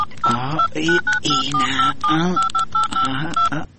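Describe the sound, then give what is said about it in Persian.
A rapid series of short, evenly spaced touch-tone beeps as a phone number is keyed in to call a cousin, about ten presses, while a person keeps talking over them. “باش که اینا زنگ بزنم.”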